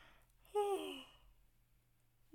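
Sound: yawn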